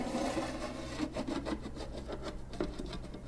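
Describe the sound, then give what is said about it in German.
A lid scrapes as it is slid off a container holding grasshoppers: a dry, woody rubbing with several short rasping strokes over a steady low hum. No one speaks. “Kaum ist der Deckel weggeschoben, klettert das erste Tierchen heraus.”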